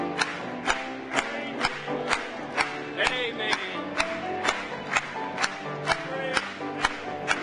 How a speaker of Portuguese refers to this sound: Vamos bater palmas mais uma vez.